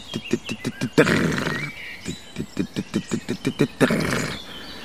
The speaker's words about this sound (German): Und spannend finde ich bei den Grauammern, dass die auch teilweise vom Boden aus oder sagen wir so nah am Boden auf einem Halm sitzend singen, dass man sie gar nicht sieht. Also du hörst oft nur aus der Fläche heraus dieses.